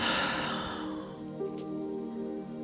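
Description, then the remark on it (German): A soft, airy breath pushed out through the mouth after breathing in through the nose during a guided breathing exercise, loudest at the start and trailing off over about a second, with a quiet steady drone humming underneath. “Wir atmen ein durch die Nase und atmen durch den Mund aus.”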